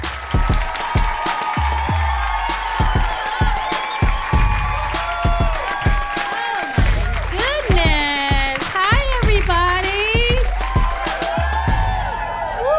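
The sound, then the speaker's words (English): A live audience at Two Dope Queens, recorded live from Union Hall, claps steadily and loudly throughout, with sharp overlapping hand claps and rising whoops and cheers, the shouting swelling into high, sliding yells near the end. “Yeah, you guys are a hot crowd. Clap it up for yourselves for coming out.”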